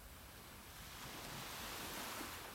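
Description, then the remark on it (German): Ocean waves wash steadily onto the shore in a continuous, hissing roar that swells slightly partway through, with no distinct individual crashes and no voices. “Genieße diesen Platz am Meer.”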